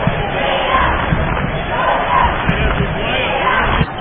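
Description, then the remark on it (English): A crowd of parents and fans rises and cheers loudly and continuously for a sophomore guard at a basketball game, with 3 seconds left in the half and the score 23-17, a dense wall of voices with faint ball bounces and thuds underneath. “I'm very impressed with the sophomore guard out there doing a good job for Rick Walker and the teammates there as the parents and fans rise to cheer for him.”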